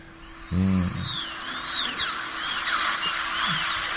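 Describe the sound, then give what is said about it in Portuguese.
A dentist's drill whirs with a high, thin whine that keeps sliding up and down in pitch, preceded by a short low buzzing hum; no one speaks. “Ai, ai, esse barulho é música para os meus ouvidos.”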